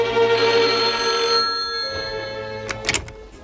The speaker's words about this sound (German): Zur selben Zeit, als der erste Detektiv den Laden von Lu Quan verließ, klingelte bei Inspektor Cotta das Telefon.